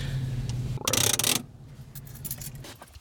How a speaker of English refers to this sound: So is that all the equipment rattling in the back? It is, yeah. Those are our mason jars that are filled up with wort